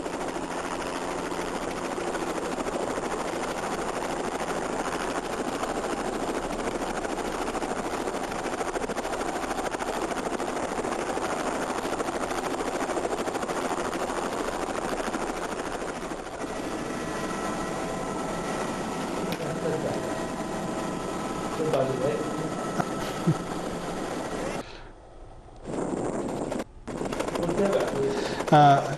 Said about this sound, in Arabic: يعني هنا نلاحظ استخدامنا للطائرة العمودية في تتبع طريق الهجرة النبوية من مكة المكرمة إلى المدينة المنورة. هنا نلاحظ الطائرة تهبط في أحد الثنايا في الطريق.